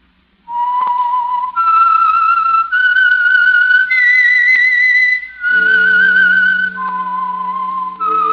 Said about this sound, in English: Whistle is your signal for the Signal Oil program, The Whistler.